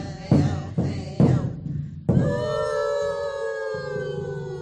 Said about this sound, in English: You are hearing a welcoming song of the native tribes of the Northwest.